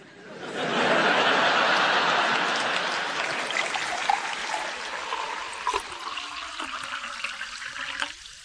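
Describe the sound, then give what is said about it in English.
Cool, natural spring water trickles and splashes steadily, swelling quickly to a full, hissy flow and then settling to a slightly lighter, bubbling run with no voices. “If there's anything more evocative of the calm tranquillity that is Buxton than cool, natural spring water”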